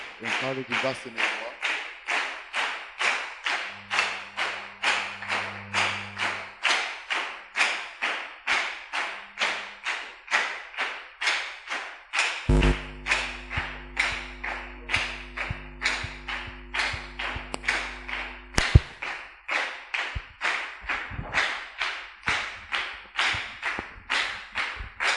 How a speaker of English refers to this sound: Katwongere Katonda ngali za amanyi. Let's add God a hand clap.